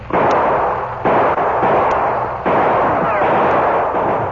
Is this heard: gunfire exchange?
yes